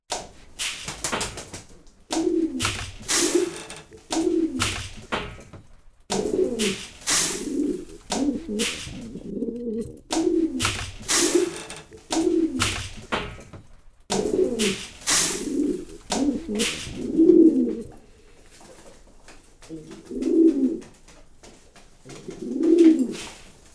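Several pigeons coo in a pigeon fancier's loft in a steady, overlapping rhythm of soft throaty calls, with occasional sharp clicks and fluttery bursts, and no one speaking; the birds are paired couples getting along without fighting.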